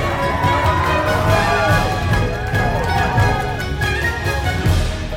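A crowd cheers and claps steadily for about five seconds after a trainer introduces a sumo wrestler, with many overlapping shouting voices over a dense, loud roar that never drops out.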